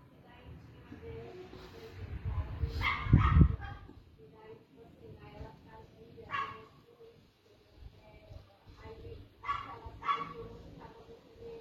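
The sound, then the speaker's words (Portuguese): A dog barks in repeated bursts at a woman's home, with a loud cluster around the third second and more scattered barks after, while her voice carries on in the background. “Não sei o que é mais irritante, se é a voz da pessoa ou se é o cachorro.”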